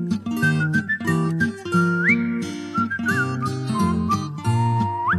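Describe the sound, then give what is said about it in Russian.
A person whistles a bright, sliding melody over a full band accompaniment, the whistle rising and gliding up in short phrases, clear and upfront for about five seconds, with no one speaking. “Подумал этот господин, и свистнул он собачке.”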